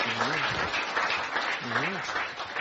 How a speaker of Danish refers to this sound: Og hvis man klapper, så er bestyrelsen genvalgt.